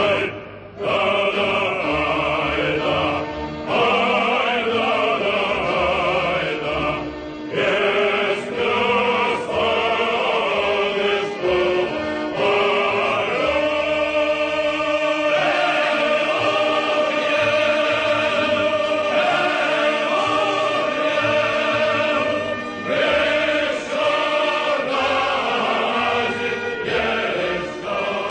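A large male choir sings a slow, heavy folk song with rich harmonies over orchestral accompaniment, loud and sustained throughout with swelling phrases.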